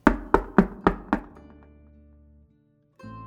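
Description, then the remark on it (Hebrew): Five firm knocks on the wooden door of a room at night, in a quick, even rhythm, each a dull thud that fades gradually; a faint tonal hum follows, then a low steady drone starts. “פעם אחת בלילה, אחרי שסיים לערוך את תיקון חצות, שמע דפיקות בדלת חדרו.”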